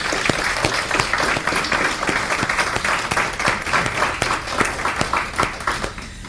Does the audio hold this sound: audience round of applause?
yes